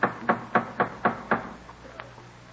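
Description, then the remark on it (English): Six quick, evenly spaced knocks rap firmly on a wooden door, a steady urgent rhythm that stops abruptly, leaving a faint quiet tail. No voices are heard. Dramatized parishioners knocking at preacher Cotton Mather's door in Boston, December 13, 1707. “Who's knocking so loudly, Martha?”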